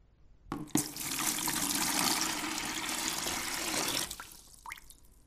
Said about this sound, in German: So klingt es, wenn ich Wasser aus einer Schüssel in einen Kübel schütte.